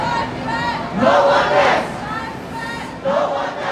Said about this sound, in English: At a lunchtime rally today, a crowd broke out in a chant that has become a rallying cry of the pro-democracy camp.